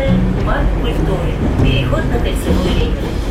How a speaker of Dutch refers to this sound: Het is een erg efficiënt netwerk. Het wordt gerund door de staat. Het is een strategisch object. Dus ja, iedere paar seconden komt er een reeks wagons voorbij gedenderd.